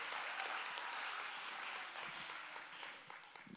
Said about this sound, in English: I like when you cheer some. Like when you give God a shout of praise and clap because He is good.